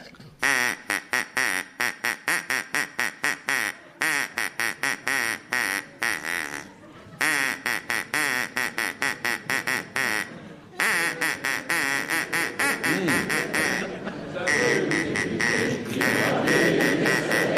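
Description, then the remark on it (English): A duck quacks loudly and insistently, rapid nasal quacks coming in quick bursts with short pauses, continuing for many seconds as a rougher wash of background noise builds beneath the later calls. “Please encourage your duck to perform for us now, please.”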